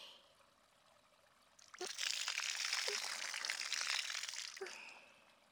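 Water pours out in a steady, splashing rush for about three seconds, fairly loud, starting abruptly from a quiet background and then trailing off, rinsing soap foam off.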